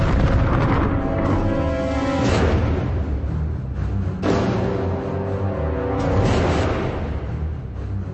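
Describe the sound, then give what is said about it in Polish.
Heavy booms from a naval gun firing from a ship's turret, powder exploding in the cartridge chamber: several deep blasts a couple of seconds apart, loud over a continuous dense rumble, with no voices. “Działo cofnęło się z głuchym odgłosem prochu eksplodującego w komorze nabojowej.”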